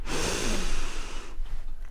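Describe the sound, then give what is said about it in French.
A person imitates a bear in a forest snorting to sharpen its scent: one long, forceful, breathy rush of air through the nose lasting over a second, then fading into quieter breath noise. It is fairly loud, with no talking. “Kun se vettää, ottaa niin kuin tarkentaa vainua.”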